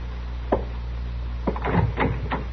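A single sharp knock by U.S. Marshal Matt Dillon, then a short pause, followed by a cluster of wooden thumps and rattles as a room door second from the top of the stairs is unlatched and swung open, over a low steady hum.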